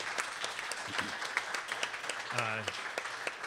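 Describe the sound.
An audience claps in a steady burst of applause, dense overlapping hand claps lasting a few seconds, with a brief voice or cheer rising through the middle.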